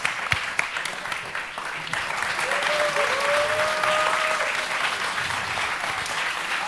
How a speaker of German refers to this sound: Gib noch mal kurz Applaus für die Postleute.